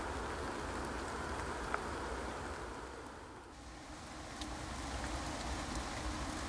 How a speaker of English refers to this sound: Although, if the wildlife had any sense, unlike me, it'd be hunkering down and finding a bit of shelter, as I think the rain is starting to get ever so slightly heavier.